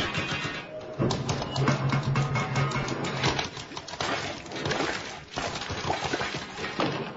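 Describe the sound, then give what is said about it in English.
Noisy plumbing after the water is turned on: a steady, dense clatter of rattling and knocking, with a low droning hum joining for a few seconds, continuing without pause and without voices. “All I did was turn on the water. That doesn't sound good. Okay, so the plumbing's not perfect.”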